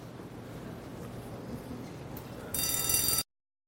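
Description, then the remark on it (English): A low, windy rumble fills the background, then a bright, shrill bell rings loudly for under a second near the end before stopping abruptly. “And it's 9:45, nobody ring the bell.”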